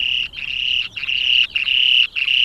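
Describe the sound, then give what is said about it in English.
The display call of a male spoon-billed sandpiper, a tiny bird 14 centimetres long with a spatula-shaped bill: a loud, high, buzzing trill repeated in five steady bursts, each roughly half a second long and split by brief gaps, with no other sounds. “This is the display call of the male spoon-billed sandpiper.”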